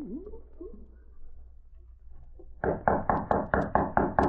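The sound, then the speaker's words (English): A knock at the door in the evening, around supper time: after a quiet, murmuring lead-in, a firm run of about eight quick, evenly spaced raps sounds out loudly on its own, with no voices. “That evening, around supper time, Mrs. Edmond answered a knock at the door.”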